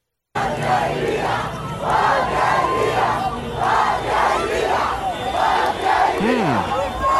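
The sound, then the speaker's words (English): A large crowd of protesters in Cuba chants together in unison, loud rhythmic shouts repeating about every second over a steady roar of massed voices, with no single speaker standing out. “That was a strange situation in Cuba this weekend, where large groups of people gathered to yell random words in unison.”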